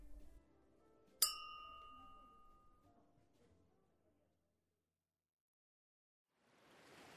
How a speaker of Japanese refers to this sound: それじゃあ改めて恋人同士になった二人に乾杯だ。